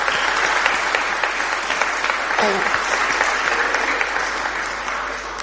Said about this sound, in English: Okay, so thank you very much. We give them a clap. Now have a seat.